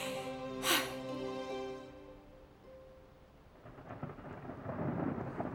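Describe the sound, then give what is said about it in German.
A sharp thunderclap cracks early on, then a low rolling rumble builds and swells toward the end, with a steady rain-like hiss and a fading sustained tone beneath. No voices. “Es donnert.”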